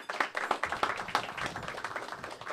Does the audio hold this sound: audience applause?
yes